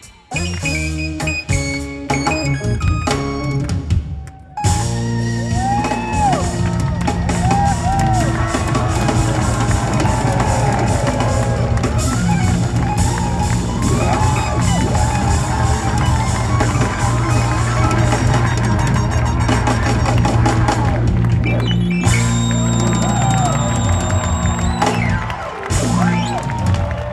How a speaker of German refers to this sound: Mit Standing Ovations wird … empfangen, mit Standing Ovations nach dem Konzert auch wieder verabschiedet. Die Stimmung hätte besser nicht sein können.